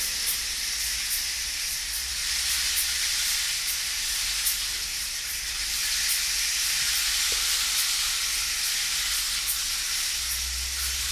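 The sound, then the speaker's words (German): A waterfall plunges down at a clearing, rushing in a steady, unbroken roar of white water, bright and hissy with a faint low rumble beneath, holding constant throughout with no voices. “Und auf einmal ist da vor dir eine Lichtung und ein Wasserfall stürzt vor dir herab.”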